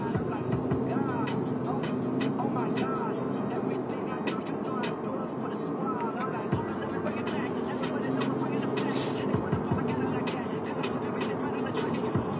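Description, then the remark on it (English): Steady, dense road noise of cars rushing past on a freeway, a continuous loud hum with occasional swells as vehicles go by and swerve around broken glass in the middle of the road after a crash, with muffled voices talking underneath. “All right, everyone is swerving around all this glass in the middle of the freeway.”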